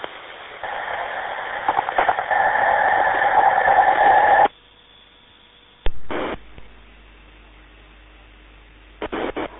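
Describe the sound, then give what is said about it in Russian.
A steady radio tone hums through crackling static for about four seconds, then cuts off abruptly, followed by a short burst of static and a few brief crackles. “Ты имеешь в виду гудок, да?”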